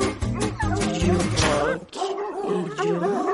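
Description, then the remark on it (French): A short, loud jingle, about three seconds long, with a punchy rhythmic first half that sounds like yapping barks over music, then smoother sliding tones to finish. “Un petit jingle, hein.”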